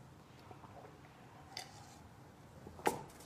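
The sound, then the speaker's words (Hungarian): A book page is turned, a soft papery rustle followed by a brief, crisp flick as the sheet settles, with no voices; the reader is turning to side B of page 49. “Közben lapoztunk a B oldalra a 49-es lapon, és elkezdjük a misnát.”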